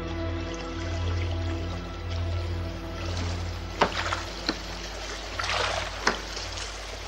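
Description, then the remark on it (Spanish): Sea water laps and sloshes against a sinking box floating in the sea with a man clinging to it, with a few sharper splashes toward the end over a low, steady rumble. No voices are heard. “está agarrado sobre la caja flotando en el mar.”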